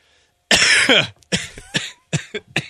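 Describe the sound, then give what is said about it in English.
A harsh coughing fit: one long, raspy cough followed by a rapid series of five or six shorter, explosive coughs, loud, with no talking. “Sorry for coughing on the air, everybody.”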